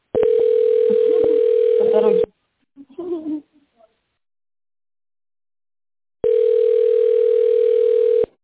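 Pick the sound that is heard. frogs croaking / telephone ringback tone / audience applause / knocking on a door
telephone ringback tone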